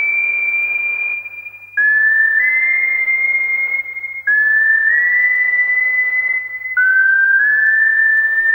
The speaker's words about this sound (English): Starts with just the whistling, and then here come the beats. Here comes the industrial edge.